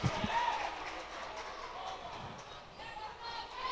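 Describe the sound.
A steady roar of spectators cheering and shouting at a wrestling match as one wrestler goes up 1-0, sustained throughout with a few low thuds near the start and voices blending into the crowd noise.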